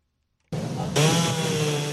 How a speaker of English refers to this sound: A power saw can now be heard in a Miami trailer park as cleanup has at last begun in the aftermath of Hurricane Irma.